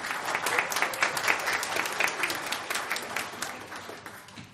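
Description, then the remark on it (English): Audience applause for all the mothers: a steady wash of many hands clapping, dense and crackly, holding fairly even for a few seconds before easing off slightly toward the end. No one speaks over it. “So if everyone can give a round of applause to all the mothers.”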